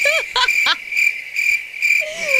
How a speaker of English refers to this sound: Where's the crickets thing?